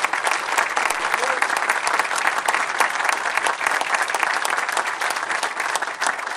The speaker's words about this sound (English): And before I forget, let's make sure to give the wonderful men, I was going to say women, but it's just men here today, men of the 101st Airborne Division Color Guard, a big round of applause.